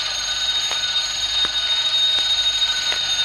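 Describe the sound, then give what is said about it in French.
A newly bought Jazz alarm clock rings steadily and loudly with a bright, high, crystalline tone, broken by faint regular clicks about every three-quarters of a second. No one speaks. “Ah, tu vois, c'est toujours la sonnerie cristalline.”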